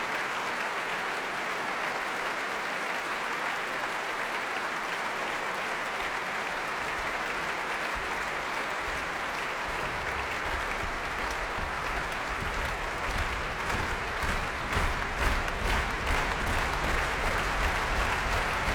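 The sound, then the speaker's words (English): A large concert audience applauds continuously, and about halfway through a low thudding of stamping feet joins in, the clapping turning into a steadier, rhythmic slow hand clap toward the end, urging pianist Lars Vogt back onto the platform. “Stamping, slow hand clapping to urge him back once again onto the platform, and here he comes.”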